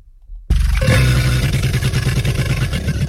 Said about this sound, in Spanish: ¿Cocodrilo? ¡Sí! ¿Sí? Sí, muy bien, chao. Dios, esto es antes de comerte, ¿no? Esto justo antes cuando está abriendo la boca para